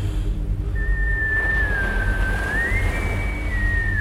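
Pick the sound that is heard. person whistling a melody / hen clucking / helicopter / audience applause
person whistling a melody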